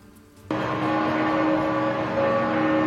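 ambience, church bells ringing

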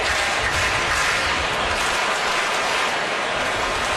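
crowd, stadium crowd cheering

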